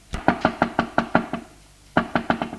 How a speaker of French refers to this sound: On frappe à la porte.